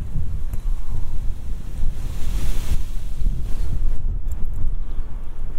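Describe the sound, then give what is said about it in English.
Strong wind buffets the microphone outdoors while walking south through a park, a continuous loud low rumble with gusty surges throughout, like roaring surf. No voices are heard. “Oh, it's so windy, gosh.”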